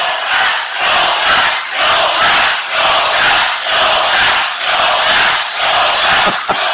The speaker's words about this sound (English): Listen to what happens. Listen. The crowd's going to go wild in a moment.